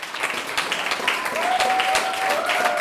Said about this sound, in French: Et les applaudissements ont été nombreux à chaque fois, ils ont accompagné l'entrée et la sortie de chaque slameur.